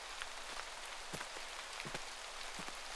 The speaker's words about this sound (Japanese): もしかして雨宿りですか？でしたら、こんな寒いところではなく、あちらのお城で雨宿りしていきませんか？